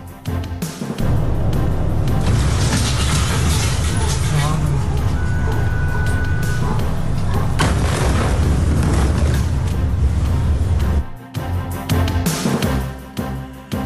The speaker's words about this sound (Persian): وقوع انفجار بزرگ در بیروت، تمامی پایتخت لبنان و حومه آن این انفجار بزرگ را شنیدند.